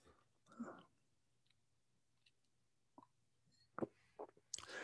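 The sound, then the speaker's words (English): Quiet mouth noises: scattered wet clicks and a gulp as food is swallowed awkwardly, ending in an abrupt, louder rasping burst like a choke or throat-clear beginning. “Excuse me, swallowed that badly.”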